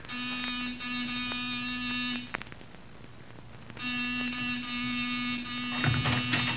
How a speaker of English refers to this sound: All right, Wolf. Give the buzzer a punch.